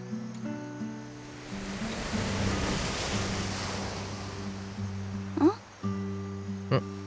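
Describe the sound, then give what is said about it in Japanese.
Ocean surf washes ashore in a broad, hissing swell that builds and slowly recedes, with a steady tonal hum underneath and a couple of brief, sharp sounds near the end. “あ、いや、何かが波に乗って流れてきた。”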